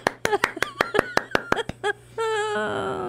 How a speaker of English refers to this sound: Clap, clap, clap, you know. Oh, clap.